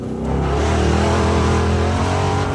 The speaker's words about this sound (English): Those are the sweet, sweet sounds of your man Lightning sitting co-pilot with Brad Lovell going over 100 miles per hour through the Southern California desert in a Bronco Desert Racer.